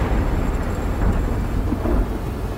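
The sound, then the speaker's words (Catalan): A deep, continuous rumble of thunder from a big storm rolls loudly through the whole stretch, with a hiss of heavy rain underneath and no voices. “What's a tempest? A really big storm.”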